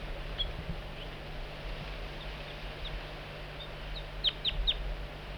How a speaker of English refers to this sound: Bird 4-3 coaxing the juvenile in with soft flight calls. Sound a little bit strange.